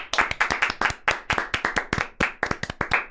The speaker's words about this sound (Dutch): Oké, nou, applaus daarvoor dan.